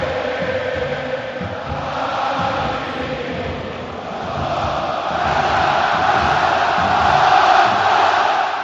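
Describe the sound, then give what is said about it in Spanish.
About 90,000 Barça supporters at the Camp Nou roar as the Barcelona and Real Madrid players walk out, one dense, unbroken wall of voices holding steady and then swelling louder over the final seconds, with no single voice standing out. “El grito es tremendo.”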